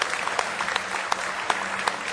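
An audience giving the Lord a hand clap of praise, a dense, steady wash of many hands clapping with a few sharper claps standing out, sustained and fairly loud throughout with no voices.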